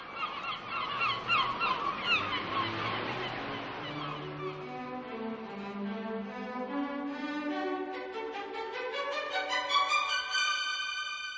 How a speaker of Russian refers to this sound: Поговорили между собой утки, взмахнули крыльями и полетели к берегу на ночлег.